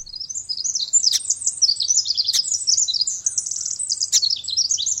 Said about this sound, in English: Yet, for many, all those little brown birds look the same. Like the ones we're hearing, they might be sparrows, might be wrens, or something